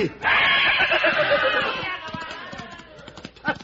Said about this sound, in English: The devil! A horse! A horse! And he scared them off.